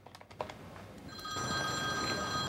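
A few quick clicks as a phone number is dialed, then a steady electronic ring starts up and continues, the sound of a phone ringing on the other end of an outgoing call.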